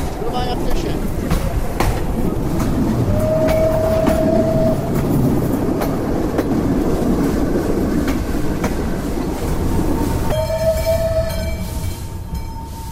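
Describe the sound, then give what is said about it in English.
A passenger train rolls steadily along the rails through the countryside with a continuous rumble and periodic clacking over the track joints, its whistle sounding in two sustained blasts. “As the train makes its way through the countryside blowing its whistle, pedestrians, cyclists, cottage owners and their children wave.”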